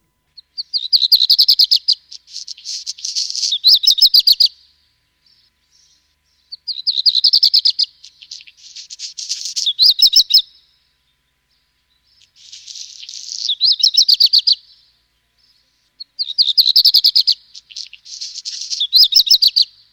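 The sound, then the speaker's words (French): A black redstart sings short, scratchy, grating phrases, repeated four times with pauses between, clear and fairly close with no other sounds or voices. “Nous avons écouté le chant typique du rouge-queue noir, hein, un peu grinçant.”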